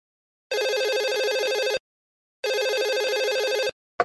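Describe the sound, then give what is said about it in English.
A telephone rings in two long bursts of bright, trilling electronic tone separated by a short pause, loud, with the start of a third ring cut off at the end. “Sometimes I can't hear the phone over the noise of the steaming machine.”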